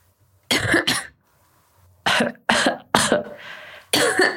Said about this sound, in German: Gut, jetzt huste mal.